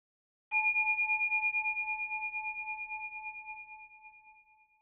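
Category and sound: signal or alarm, single meditation bell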